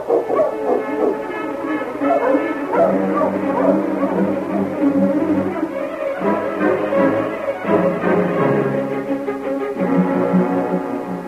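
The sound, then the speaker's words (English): A team of sled dogs barks and yips excitedly in a loud, continuous chorus as they are got up to travel, overlapping one another throughout, with steady tonal sound running underneath. “Get the dogs up, King.”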